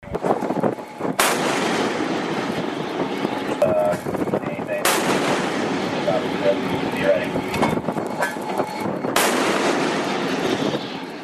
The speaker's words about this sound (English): United States Navy destroyer USS Spruance fired several rounds from a 5-inch MK-45 gun into Tosca's engine room.